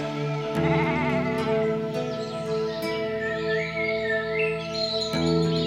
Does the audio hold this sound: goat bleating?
yes